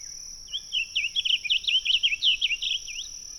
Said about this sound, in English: We walk through a pine stand with a very open understory and are delighted by the cheerful warble of a blue grosbeak perched atop a large shrub. His normally dull blue color shines brightly in the early sun.